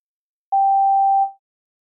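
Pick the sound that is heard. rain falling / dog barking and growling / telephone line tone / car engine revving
telephone line tone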